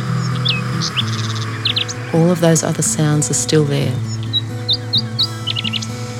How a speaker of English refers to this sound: For those who want to continue, take a moment and listen closely for the sound of the birds.